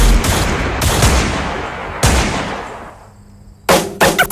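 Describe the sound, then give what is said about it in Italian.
Loud gunshots fired in the distance crack out about a second apart, each leaving a long echoing tail, then a quicker cluster of shots closes the sequence. No one speaks. “Non sai mai come va a finire, se da lontano poi senti gli spari.”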